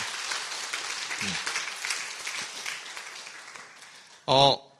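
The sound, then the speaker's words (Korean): A church audience claps together in warm, sustained applause to congratulate a member's daughter on her wedding the day before, a dense crowd of hands for several seconds before a voice briefly cuts in at the end. “결혼 축하의 의미로 박수하도록 하겠습니다.”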